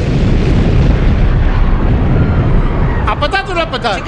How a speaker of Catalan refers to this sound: Tal com estava previst, la bomba peta a les 21:15. Ni un segon més tard.